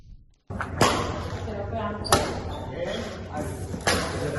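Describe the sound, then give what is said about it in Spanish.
Three sharp, crisp racket strikes on a badminton shuttlecock, spaced a second or two apart, over a steady background murmur of voices in wheelchair badminton (para-badminton) play. “Sobre una silla de ruedas y dándole al bádminton, en este caso el para bádminton”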